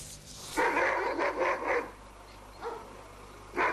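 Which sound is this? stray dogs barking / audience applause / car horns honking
stray dogs barking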